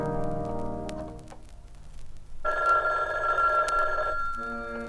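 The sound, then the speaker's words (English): A loud telephone bell rings once in a sustained, trilling burst of about two seconds, following a few soft, sustained musical tones that fade out beforehand. “Maybe I'll pick up a phone and call him.”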